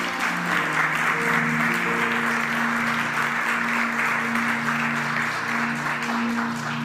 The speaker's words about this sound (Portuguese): Não é muito comum bater palmas depois da pregação, não, mas eu agradeço e dou a glória a Deus.